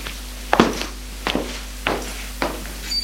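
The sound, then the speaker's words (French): Five or so steady footsteps of a man along an upstairs corridor lined with wooden doors as he goes to open one, each a dull, knocking thud spaced about half a second apart, heard on their own with no talking, over a faint low hum. “L'homme va ouvrir une porte.”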